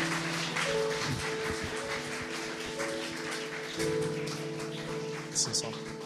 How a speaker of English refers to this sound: Yeah, let's give a great hand for these people as they go back to their seat.